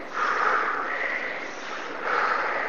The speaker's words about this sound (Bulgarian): Бастрика дишане,